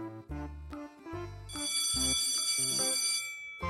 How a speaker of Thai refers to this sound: เสียงออดแล้วไปเรียนกัน ไปเร็วไปเร็วไปเรียนกัน